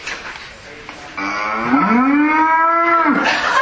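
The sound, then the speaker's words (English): A single long, loud cow moo, starting after a moment of quiet and holding a low, drawn-out tone that bends slightly before fading near the end. “So, there's a part in a song where you need to make a sound like a cow. This is what a cow sounds like.”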